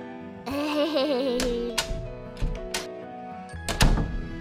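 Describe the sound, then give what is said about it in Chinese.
A door opens with a wavering, creaky squeal, followed by several dull thunks and a louder rattling clunk near the end, with no voices. “是开门的声音。”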